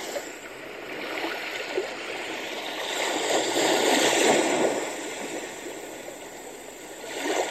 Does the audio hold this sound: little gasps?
no